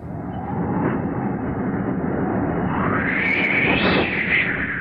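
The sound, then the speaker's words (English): A wind sound effect of the kind made for the Walt Disney film 20,000 Leagues Under the Sea: a steady, loud rush of wind noise blows throughout, swelling into a higher whistling howl that rises and wavers in pitch toward the end. No one speaks. “Can you give us some wind?”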